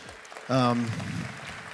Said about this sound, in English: That's great. I think that deserves a huge round of applause.